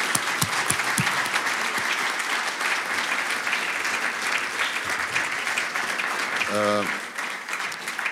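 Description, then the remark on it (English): A crowd applauds steadily for several seconds, a dense wash of clapping, with a brief harmonic tone like a voice or whistle rising near the end, giving thanks to the helpers who worked for weeks. “I think we should applaud.”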